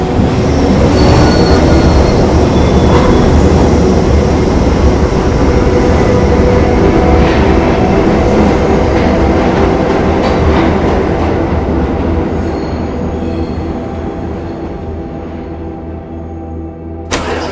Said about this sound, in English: The train doors open and she stares inside. Struggling with her emotions, Lou closes her eyes and the train doors close again without her getting on.